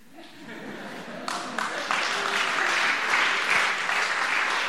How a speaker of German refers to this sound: Andere klatschen jetzt wieder, aber.